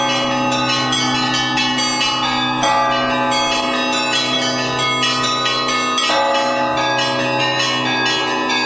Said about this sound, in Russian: Алексей Кофанов, член жюри фестиваля и профессиональный музыкант, отмечает, на Вятке очень высокий уровень не только исполнительского мастерства звонарей, но колокольного искусства в целом.